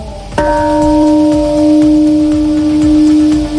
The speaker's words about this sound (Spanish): Y así es como ha sonado la campana de la paz en recuerdo de las más de 200.000 víctimas mortales que las bombas nucleares dejaron en esa ciudad.